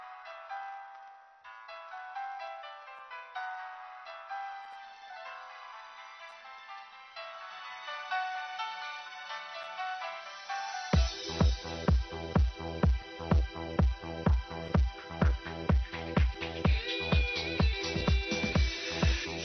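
An instrumental song intro plays, opening with a soft, melodic synth line before a strong, regular beat with punchy bass kicks enters about halfway through and drives the music forward.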